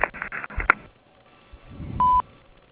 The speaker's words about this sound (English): No one is available to take your call right now, but your call is very important to us. Please leave your name, telephone number, and a brief message after the beep, and we'll promptly return your call.